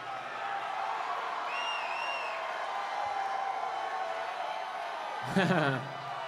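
A live concert audience roars in a steady wash of cheering and applause, yelling for the old hit songs, with a couple of whistles early on and a loud shout breaking through near the end.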